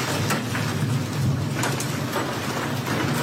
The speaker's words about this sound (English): Hail falls on Sabrina Devers' property in Perryton, Texas